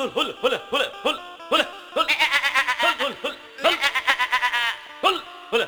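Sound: goat bleating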